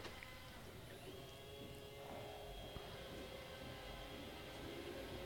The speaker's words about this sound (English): I'm going to go turn that thing upside down. Yes, sir. Sorry, we're being interrupted by a automatic vacuum cleaner.